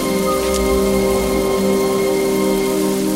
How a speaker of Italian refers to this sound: Se solo smettesse di piovere. Non può piovere per sempre.